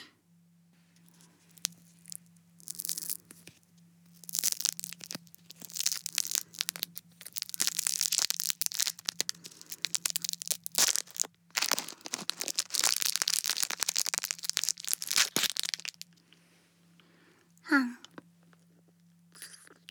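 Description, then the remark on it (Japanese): A Chupa Chups lollipop wrapper, cider flavor, is crinkled and torn open in a long run of sharp, bright rustling, crackling bursts, with a steady low hum underneath and a brief squeak near the end. “あなたも食べる？チュッパチャップス。”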